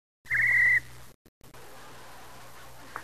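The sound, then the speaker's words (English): A single loud, shrill whistle blast, imitating how New York City traffic policemen stop the traffic, held at one steady high pitch for about half a second, then a quiet low hum with no talking. “How do the policemen stop the traffic?”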